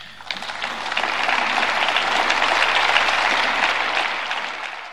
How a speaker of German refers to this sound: Applaus ja, Euphorie nein. Der anfängliche Glanz der europäischen Lichtgestalt Emmanuel Macron ist nach fast einem Jahr Amtszeit ein wenig verblasst.